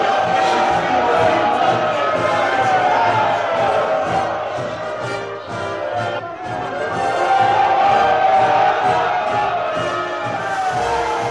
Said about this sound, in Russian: Тысячи платков развивались в воздухе над толпой. Народ приветствовал Авраама Линкольна, пока он маневрировал, выходя в море.